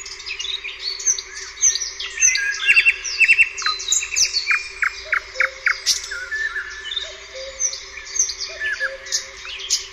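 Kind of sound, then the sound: bird, nightingale song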